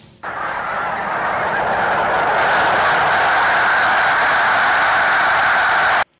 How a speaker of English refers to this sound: Well, that dramatic sound is what a huge flock of snow geese sounds like when taking off. If you'd like to see and hear this marvelous phenomenon, head over to the Delta areas near Laconner soon.